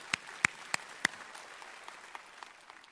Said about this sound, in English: Whoa, Peter. Yeah, come on, let's give Peter an applause.